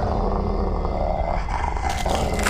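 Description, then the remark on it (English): A dog growls low and steadily, a continuous rumbling snarl that rises slightly in intensity toward the end, with no speech. “God, doggy!”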